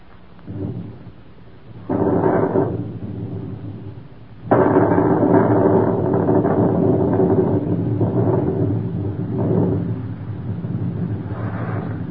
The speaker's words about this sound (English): Looks like a storm coming up, don't it?